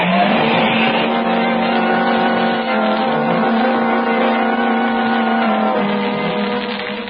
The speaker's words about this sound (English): Away in his fast motor car sped the Blue Beetle, leaving the commissioner's daughter on guard over Bugs McGarty and his band of criminals.